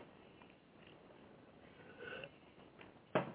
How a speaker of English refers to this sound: Excuse me while I clear my throat here.